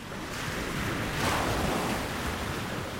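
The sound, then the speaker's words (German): Steady roar of sea surf with gusting wind on a long white beach at St. Peter-Ording, Germany, a broad rushing wash that swells into a louder breaking wave midway, then eases back. No voices. “Die Brandung hat das Treibholz aufgeschichtet zu Scheiterhaufen.”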